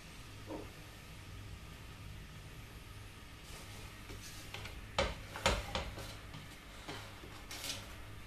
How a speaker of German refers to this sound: Allen voran die Kartoffeln ins Öl. So, ihr hört es schon ein bisschen britzeln. Und dann auch gleich die Radieschen oben drauf.